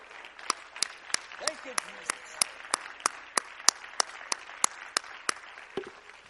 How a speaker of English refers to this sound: Hallelujah. Let's give him a hand clap of praise right now.